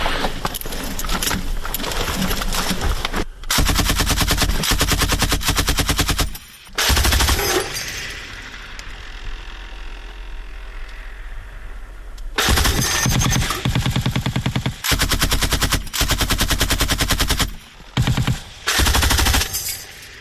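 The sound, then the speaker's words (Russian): Loud, rapid machine gun fire from a front-line firing position and observation post, the machine gun fitted with a sight, rattles in long sustained bursts, breaks off for a quieter lull of several seconds, then resumes in more extended rattling bursts separated by brief pauses. “у нас тут стоит на этом пулемете типа визийный прицел.”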